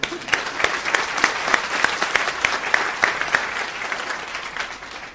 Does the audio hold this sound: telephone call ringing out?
no